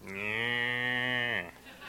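A cow lets out a single long, steady moo lasting over a second, loud, with a rich droning tone before it cuts off into quiet.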